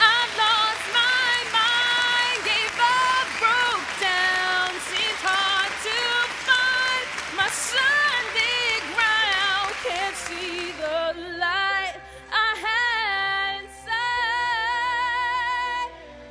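An audience claps steadily in a dense, crackling wash for about eleven seconds, welcoming a three-member band about to sing their song, while music plays underneath; then the clapping drops away and the music carries on alone.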